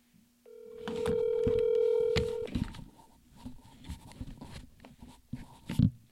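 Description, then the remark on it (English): A touch-tone phone being dialed: a steady dial tone for about two seconds, then a quick irregular series of short beeps and clicks as buttons are pressed, with no talking. “My high-tech phone operation.”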